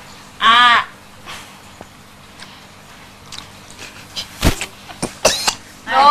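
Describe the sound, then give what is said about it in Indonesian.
Someone coughs after taking a drink while their mouth is not yet empty of food: one strained, rasping hack, then a few short, sharp coughs in quick succession, with no talking. “Jadi batuk. Pelan-pelan aja mulutnya nih.”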